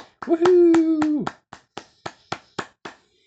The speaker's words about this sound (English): I want you to go ahead and clap your hands real loud and cheer for the floats and the bands and pretend like you're at the parade. So go ahead and clap and cheer.